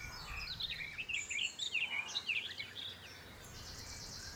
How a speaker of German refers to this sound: In der Ferne hören Sie das Gezwitscher von Vögeln.